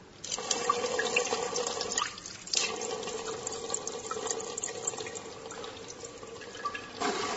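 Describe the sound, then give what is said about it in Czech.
5 ml of water streams steadily into a narrow measuring cylinder, a continuous splashing pour with a brief pause near the middle and a short burst again at the end; no one speaks. “Zatim ćemo uzeti 5 ml vode.”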